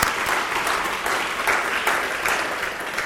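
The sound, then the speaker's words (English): Sustained applause from a sizable crowd for the awardees at an anti-racist Alliance event, a dense steady patter of many hands clapping at once with no voices breaking through. “Let's give them another round of applause.”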